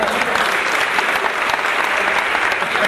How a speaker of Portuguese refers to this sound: Gente, uma salva de palmas aqui pra